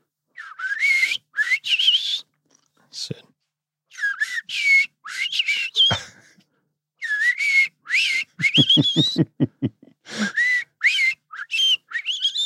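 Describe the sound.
A person whistles an imitation of robin song: delicate high warbling phrases with quick trills and pauses, including a rapid pulsed rattle in the middle, with no talking.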